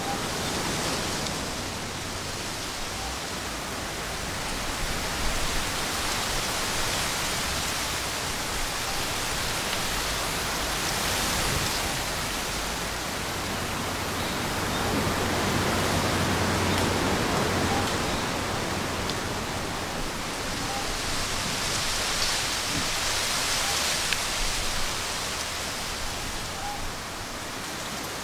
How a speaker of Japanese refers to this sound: 風がサトウキビ畑を通り抜けていきます。